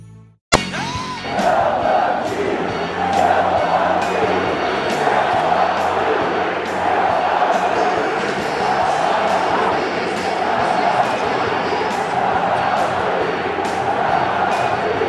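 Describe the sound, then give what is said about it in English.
A loud crowd of about 28,000 at a stadium game roars and cheers continuously after a sharp start, a dense wall of voices with scattered whoops and yells rising and falling for about fifteen seconds. “Tonight was as close to a playoff crowd as I think I've experienced managing a game, and the energy, the atmosphere was you know, everything that the stadium can be.”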